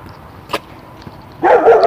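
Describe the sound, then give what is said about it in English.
A dog lets out a loud bark near the end, preceded by a brief sharp noise, against a quiet outdoor background with no talking. “I'll do it where there's not a dog.”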